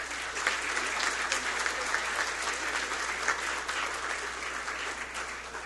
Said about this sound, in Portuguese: Portanto, também a eles uma grande salva de palmas.